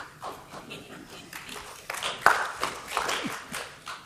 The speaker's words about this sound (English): Thank you for that. I've never been clapped for shitting.